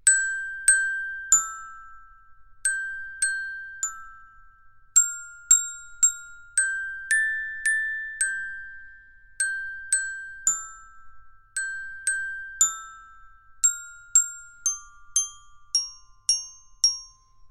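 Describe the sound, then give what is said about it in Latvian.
Small bells tinkle in a gentle melody, each bright strike ringing out and fading before the next, about two notes per second, clear with no voices. “Savukārt Dominikam labi padevās zvaniņu spēle, jo viņš bija sapņotājs.”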